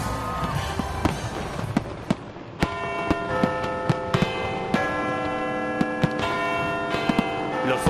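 Bells ring out in ringing, sustained tones at midnight on New Year's Eve over a dense festive street crowd din, while sharp firework bangs and crackles burst irregularly throughout, some loud.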